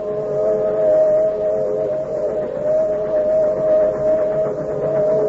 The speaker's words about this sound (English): It is late at night, and the whistle of a southbound freight is heard in the distance. In the darkness of the cut, two men huddle against an embankment. The train whistle is heard again.